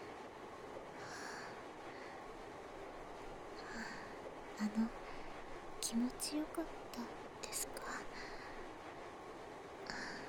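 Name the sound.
train interior ambience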